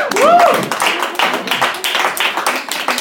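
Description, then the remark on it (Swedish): A short burst of applause from a few people, dense irregular clapping that stays fairly loud throughout, with a brief rising whoop or whistle near the start. “med en liten applåd också.”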